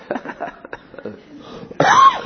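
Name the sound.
coughing and throat clearing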